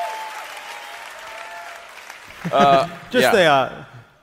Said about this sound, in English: The low standards we have now. Just basic reading. We're applauding reading comprehension. That's all we got, boo.